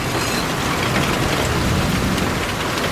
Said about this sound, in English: Oh my God, it's absolutely pouring it down now. This is terrible weather. Anyway, can you hear the thunder? Come on, you've got to hear this. This is amazing.